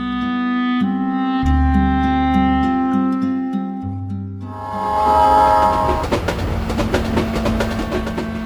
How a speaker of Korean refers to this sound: KTX는 시간과 싸우지만 시속 30km의 증기기관차는 느림을 향해 천천히 달린다.